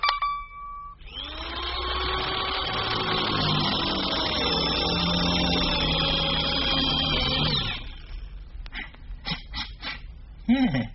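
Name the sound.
power drill running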